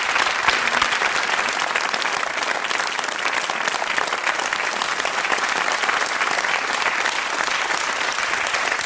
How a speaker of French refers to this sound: merveilleusement avec un immense talent par cet Euskal Baroque Ensemble que j'ai le grand plaisir d'accueillir ce soir en direct donc sur France Musique et que je vous demande d'applaudir très chaleureusement et je vous souhaite un excellent concert.